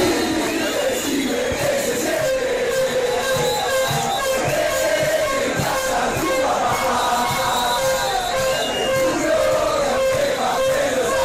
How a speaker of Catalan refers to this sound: A les grades de Maracanà, els argentins escalfen la final amb la cançó que es van inventar pels brasilers.